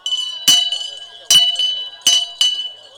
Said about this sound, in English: Would you like to give a traditional cry for a town crier and ring your bell at the same time? I can do that.